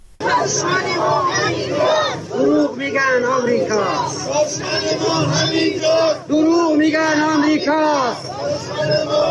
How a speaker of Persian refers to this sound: تجمعات و شعارهایی مثل پول نفت گم شده، خرج فلسطین شده. بر اساس ویدیوهایی که در شبکه‌های اجتماعی منتشر شده، این اعتراض‌ها در ده‌ها شهر ایران صورت گرفته.